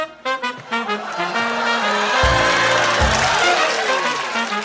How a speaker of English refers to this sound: Can we get an applause cue?